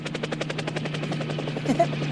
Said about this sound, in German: Oh, da kommt er ja schon, der Helikopter.